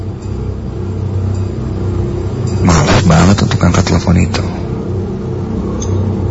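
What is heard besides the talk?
car engine driving fast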